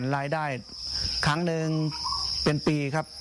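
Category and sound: insect, farmed crickets chirping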